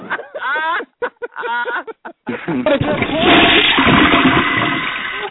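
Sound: toilet flushing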